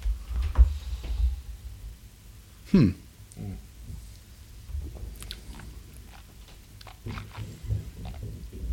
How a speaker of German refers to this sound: Klingt so, als würde er irgendwas über den Boden schieben.